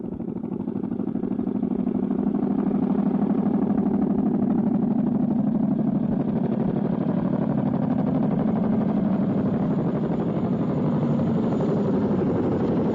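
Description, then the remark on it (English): A low-flying crop-dusting plane roars overhead, its loud, steady engine drone rising from a fade-in and holding strong throughout, a rough buzzing hum with no voices. “He's coming right over. Listen to this thing. He'll probably drown me out as soon as he gets a little bit closer.”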